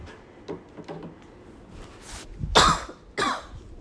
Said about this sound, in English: Sorry, I, like, put my phone to the side as I coughed, so I wouldn't blow your eardrums out like I did last time.